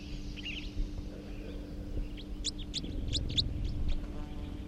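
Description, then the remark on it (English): A third wild bird, a red male, gives a type 4 call being recorded: a quick run of sharp, high chirping calls, about six notes in close succession after a brief earlier burst, over a steady low rumble. “Recording that third wild male, third wild bird, who is a male, type 4.”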